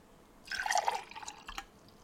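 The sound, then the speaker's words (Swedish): Warm liquid is poured into a glass for about a second, a splashy trickle that starts abruptly, gurgles, then tapers into a few drips. No one speaks. “Och så, nu häller jag upp det första.”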